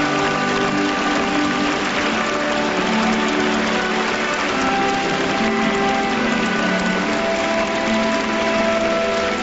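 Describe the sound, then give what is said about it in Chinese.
Sustained, warm applause from a large crowd as Xi Jinping and Vladimir Putin enter the hall together at the National Centre for the Performing Arts in Beijing, at the China-Russia Years of Culture opening concert. A dense, steady wash of clapping holds at an even, fairly loud level, with no voices on top. “习近平和普京在热烈的掌声中一同步入会场。”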